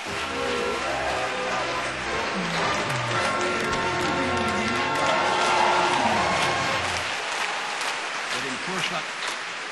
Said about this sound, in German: Schrei und Applaus für die Hammerregie.